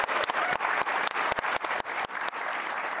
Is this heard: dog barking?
no